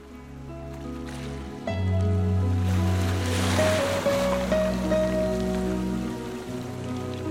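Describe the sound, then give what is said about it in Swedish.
Ocean waves wash steadily onto a beach in a continuous hiss that swells in the middle, with sustained, gentle musical tones underneath and no voices. “Pappan och barnen satt på stranden och tittade ut över vattnet. Det var verkligen stort. Havet.”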